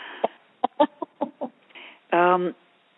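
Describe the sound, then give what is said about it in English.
Chickens cluck just outside a front screen door in a quick, uneven series of short bursts, then one hen lets out a longer, drawn-out squawk. The birds sound moderately loud. “I have two of our rescues here, and two that are canyon dogs who visit us, and a slew of chickens and geese just outside the front screen door. So we could have some sound effects today.”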